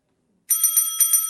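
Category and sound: signal or alarm, bell ringing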